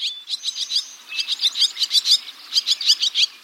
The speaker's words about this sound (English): Well, in a single summer day, the barn swallow, like the ones we're hearing, consumes about 850 insects.